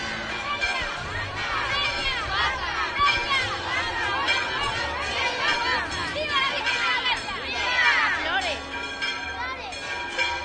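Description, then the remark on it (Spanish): A dense crowd at a flower offering fills the space with overlapping voices, shouts and calls, a steady loud murmur with rising cheers and chanting as some people pray and cheer, showing their affection and devotion. “Hay quien se lanza a rezar, como ellos saben, vitoreándola, demostrándole su afecto, su cariño y su devoción.”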